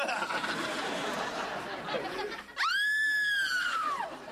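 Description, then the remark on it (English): A loud, high-pitched scream of pain bursts out after a couple of seconds of noisy background chatter, holding steady for about a second and a half before sliding downward and breaking off. “Now that's a scream of pain.”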